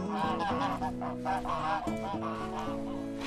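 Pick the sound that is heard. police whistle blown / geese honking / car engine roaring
geese honking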